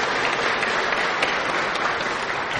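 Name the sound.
group clapping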